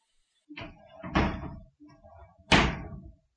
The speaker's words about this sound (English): Okay, I'm going to close my door to my washing machine so it's not so loud. I'll be right back.